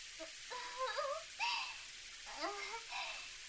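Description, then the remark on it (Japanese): Steady spray of shower water hisses softly and continuously, while a voice speaks in short phrases over the running water. “シャワーもう少し浴びようか。”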